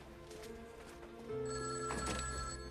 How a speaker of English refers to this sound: He answers the phone.